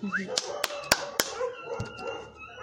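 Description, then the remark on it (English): A puppy lets out a quick run of sharp, high yips and barks, about four in fairly even succession, with some background voices murmuring underneath. “Puppy. No. Poor puppy dog.”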